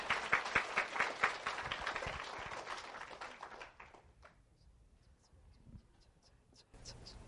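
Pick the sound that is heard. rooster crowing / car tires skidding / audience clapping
audience clapping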